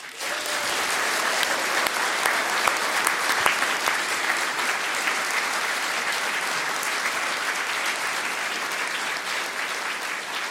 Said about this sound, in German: Können Sie noch mal richtig doll klatschen hier in Volksparksaal in die Blaumstadt Tessin.